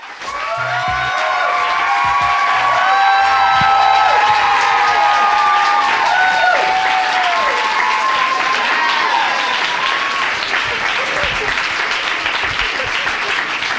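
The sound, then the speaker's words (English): A crowd of fans of author Janet Mock breaks into sustained applause at the Strand Bookstore in New York City, dense clapping mixed with high cheers and whoops that rise early and hold steady before gradually thinning out. “And I was super excited to interview Janet about it at the Strand Bookstore in New York City in front of a crowd of her lovely fans, who you'll hear too.”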